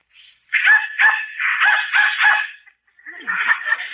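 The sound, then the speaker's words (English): A dog barks in response to a dog whistle that humans cannot hear: a quick run of five sharp, high-pitched barks, then, after a short pause, a longer yelping bark. No one speaks. “Dog heard it, but I didn't.”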